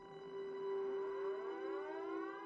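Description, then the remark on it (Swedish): Air raid warning sirens in Tokyo wail steadily, sounding as bombers were sighted elsewhere in Japan: a strong sustained tone with many overlapping pitches that slowly drift and rise against one another, with no voices over them. “Detta var när Tokyos första varningssirener ljöd, då bombplanen hade siktats på annat håll i landet.”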